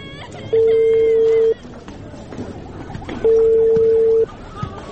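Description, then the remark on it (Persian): A phone call being placed to a father: two long, steady ringing tones about a second each, with a pause between, sound clearly over faint background murmur and room noise. “ته صبر چې پلار ته مې زنګ ووهم او زیری پې وکم.”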